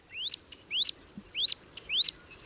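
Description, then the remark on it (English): Wood duck calls: four rising, squealing whistles repeated at an even pace, each sweeping upward, fairly clear against a soft outdoor background with no talking. “when it comes to wood ducks, what you see might not be what you imagine.”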